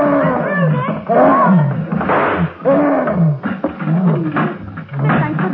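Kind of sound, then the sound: animal, gorilla roaring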